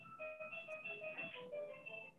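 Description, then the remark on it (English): An electronic doorbell plays a looping chime tune, bright sustained tones stepping through a simple melody at a steady pace, fairly loud and with no talking over it. “I don't know if you guys can hear my super obnoxious doorbell ringing.”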